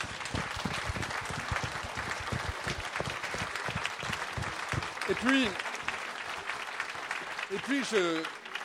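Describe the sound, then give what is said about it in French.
A crowd at a festival applauds the authors and illustrators present, a dense patter of many hands clapping at even loudness, with a couple of brief raised voices calling out near the end. “Donc un grand bravo et je voudrais vraiment qu'on applaudisse tous ces auteurs, tous ces illustrateurs qui étaient ici présents et qui font que ce festival vit aussi bien.”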